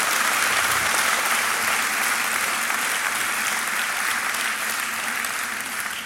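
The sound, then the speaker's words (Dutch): A crowd applauds steadily, a dense, loud wash of clapping that holds at an even level for several seconds before easing slightly toward the end. “Een heer een applaus voor geven.”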